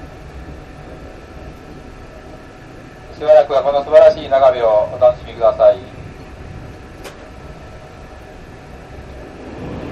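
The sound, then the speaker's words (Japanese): A steady low rumble fills the inside of a moving train carriage nearing the Akashi Kaikyō Bridge, bound next for Sannomiya, with a brief announcement-style voice speaking over it partway through before the constant drone continues alone. “まもなく列車の右手に明石海峡橋がご覧いただけます。”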